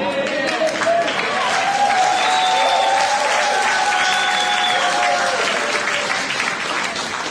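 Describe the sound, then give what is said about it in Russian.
Sustained audience applause, a dense, steady clatter of many hands clapping at an even loudness for several seconds, with faint crowd murmur mixed in. “Спасибо вам за такие аплодисменты.”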